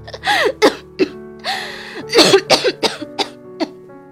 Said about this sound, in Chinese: 他用力捂住胸口，拼命压住汹涌而来的咳嗽。